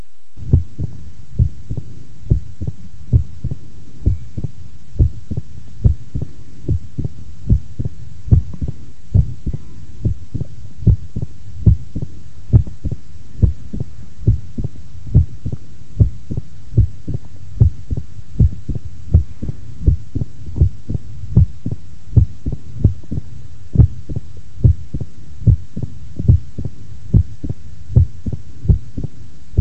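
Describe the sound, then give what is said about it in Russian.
A steady, fast heartbeat heard through a stethoscope at the heart's apex of a patient with mitral stenosis, each beat opening with a sharp, loud snapping first heart sound, repeating evenly for about thirty seconds with no talking. “Прослушайте хлопающий первый тон на верхушке у больного с митральным стенозом.”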